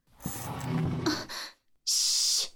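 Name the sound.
heavy rough breathing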